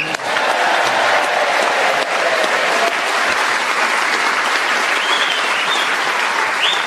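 Sustained, loud, extra long round of applause from a large studio audience at a BBC show, dense and steady throughout with no pauses, a few faint voices or whistles rising above the clapping near the end.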